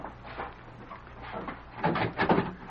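household object, door opening

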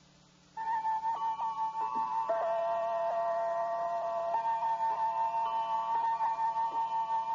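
household object, clock ticking

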